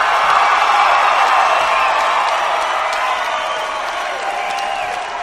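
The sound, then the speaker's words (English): A large crowd in Houston cheers and applauds continuously for Larry the Cable Guy, a loud, dense roar of clapping and shouts with occasional whoops, holding steady and easing off slightly toward the end. “Everybody, Houston, make some noise for Larry the Cable Guy.”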